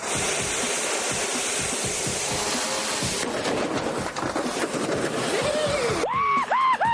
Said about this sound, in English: What was that noise? Land Rover coming crashing down to earth. Yeah, what's the state of it? Can you tell? Upside down.